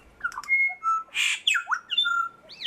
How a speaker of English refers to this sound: So I've grouped them all into about 700 types, which means then I can look at how a song is made up. Like each syllable now has a label, which means I can compare two birds and see if they are singing the same type or not.